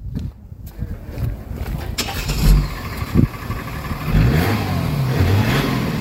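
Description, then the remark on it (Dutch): A car engine cranks and catches, then revs up with a couple of throaty bursts before settling into a steady, rumbling idle. “Laat het geluid me horen dan. Ik sling hem aan voor je, Mario.”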